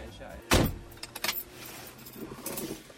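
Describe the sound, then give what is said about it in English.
A car door is opened and shut: a sharp, heavy thunk of it shutting, followed by a few lighter latch clicks and rattles, then a softer rustle and clunk near the end. “at the beginning of that song you hear … telling Neil to open the car door and shut it”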